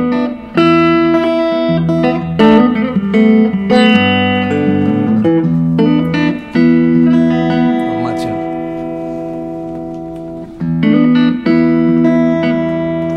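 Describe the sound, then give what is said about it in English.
An electric guitar being tuned up: repeated plucked notes and ringing chords, with a wavering pitch slide midway, played fairly loud with an effects-laden, reverberant tone. “That's right, tune up while I'm taking a picture.”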